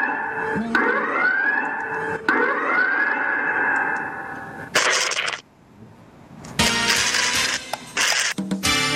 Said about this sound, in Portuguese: bote aí a sirene. A sirene.